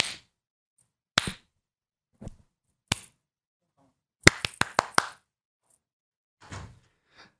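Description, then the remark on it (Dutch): Sharp hand claps ring out, first a few scattered single claps, then a quick burst of five or six in a row, with no one talking. “Ik ook klappen? Ja, doe maar. Ga eens klappen dan.”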